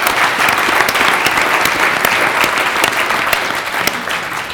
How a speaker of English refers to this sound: Can we give the whole steering group a round of applause?